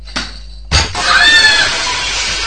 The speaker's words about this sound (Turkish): Eyvah. Cam kırıldı. Lütfen ortalığı toplayın.